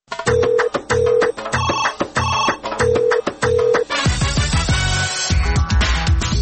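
A telephone rings with a bright, melodic electronic ringtone, repeating its short chiming pattern loudly before giving way to a denser burst of music, with no voices.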